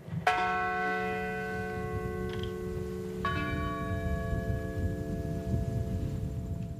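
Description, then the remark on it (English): A large memorial bell tolls twice in rural Pennsylvania, where a hijacked plane crashed, as names of those who died are read; each deep, resonant strike rings out with long shimmering overtones over a steady low background rumble. “the Pentagon near Washington, while one crashed in rural Pennsylvania, where a bell tolled and the names were read of those who died to prevent another terrorist incident from taking place.”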